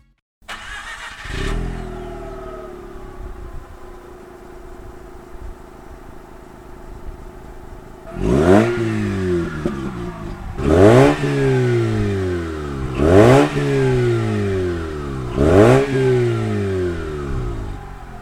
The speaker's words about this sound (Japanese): RX8 LA SE3P、 マフラーはバーテックスチタン GD750。